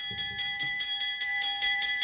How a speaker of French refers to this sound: La cloche a sonné, ça signifie là où est à nous que la joie vienne.